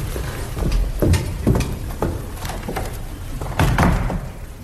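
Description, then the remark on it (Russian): Several doors are shut one after another, a series of wooden knocks, latch clicks and soft thuds spread over a few seconds, with a heavier double slam near the end. “закрывает все двери.”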